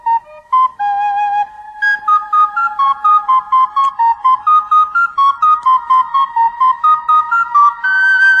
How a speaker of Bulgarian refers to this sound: Ще ми дадеш ли за малко свирката си? Разбира се. Благодаря ти. Всъщност, и на вас мога да издялкам по една свирка. А после ще ви науча да свирите тази пра-стара мелодия.